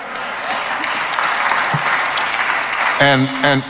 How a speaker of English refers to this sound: And so all the white folk can clap.